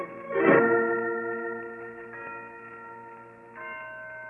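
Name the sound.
church bells ringing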